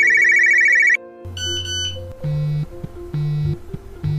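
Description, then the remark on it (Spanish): A Nokia mobile phone ringtone plays its bright, electronic melody of short beeping notes that hop between pitches, loud, with no one talking over it. “Mark Anthony Kay fue criado por una madre soltera y con un poco de ayuda de un teléfono Nokia.”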